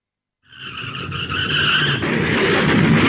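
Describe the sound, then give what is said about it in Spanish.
Car tires skid with a loud, sustained screech that starts abruptly and grows rougher and noisier, a single long squeal with engine and road rumble underneath, prominent, just before a car crash. “¡Uy! ¡Mirá cómo quedó el auto! Perdóname, fue mi culpa.”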